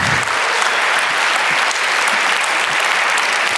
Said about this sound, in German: Bitte einen ganz, ganz herzlichen Applaus